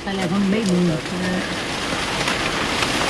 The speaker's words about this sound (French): Aqui a chuva é tropical.